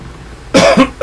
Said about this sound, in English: Okay, sorry about the coughing there, boys and girls. I know that gets loud on your speakers. Tried to turn away, but it got me.